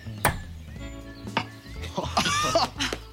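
A hammer strikes a nail into a tree stump several times in uneven succession, each blow a sharp, bright knock with a brief metallic ring, while faint voices murmur underneath.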